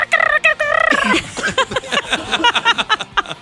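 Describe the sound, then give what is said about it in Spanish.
A person imitates a barn owl's strange call: a few loud, drawn-out wavering cries followed by a fast, gobbling, chattering burst, without any spoken words. “En casa suele haber muchas lechuzas a la noche. Y no hace la lechuza. No. Hace...”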